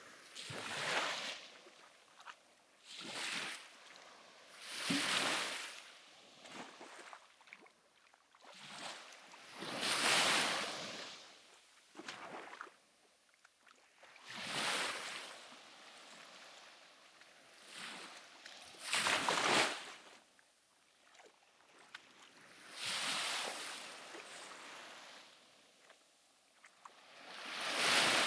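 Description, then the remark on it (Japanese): Waves wash in and out around two people wading through shallow sea water, broad hissing surges swelling and fading every few seconds with soft splashing between, no voices. “波の音に助けされそうだけど、ちゃんと私らが動いてる音が聞こえるかな。”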